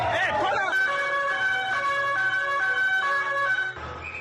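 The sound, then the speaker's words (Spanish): An ambulance siren wails steadily and loudly on Las Ramblas in Barcelona on a hot August afternoon after a white van ran down pedestrians, its tones sustained, with a burst of shouting voices at the very start and the siren cutting off just before the end. “Ahí los gritos y también, a su paso, muchas vidas sesgadas y el sonido de las ambulancias.”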